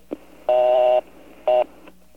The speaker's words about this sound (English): What they used to do back in ye olden days, was they would take the old dial tone and break it up, and that would be your busy signal. For example, the old dial tone was a buzz, so this was your busy signal.